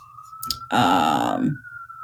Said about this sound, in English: I don't know if you're hearing this. I left my window open a little because it's nice and warm today, and I'm hearing some sirens. Excuse those sirens. Hope everything is okay.